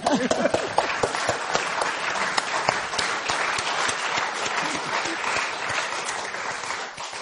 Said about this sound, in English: Well, I think that deserves applause. Well done.